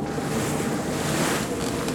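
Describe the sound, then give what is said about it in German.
Strong wind roars steadily around a sailboat in a race as it nears an island with a dangerous current, while waves wash and surge, a dense, continuous rush of water and gusting air with no voices. “der Wind ist zu stark!”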